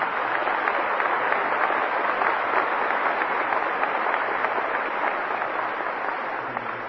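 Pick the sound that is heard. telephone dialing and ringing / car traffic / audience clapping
audience clapping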